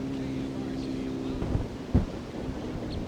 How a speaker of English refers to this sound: It's kind of windy right here now.